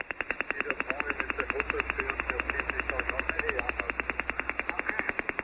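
Rapid, evenly spaced pulses from an over-the-horizon radar signal about 10 kilohertz wide, recorded on 14.305 and resembling the Russian woodpecker radar, tap over shortwave static, a steady machine-like clatter of about ten beats per second that carries on unbroken, with faint garbled voice sounds beneath the pulses.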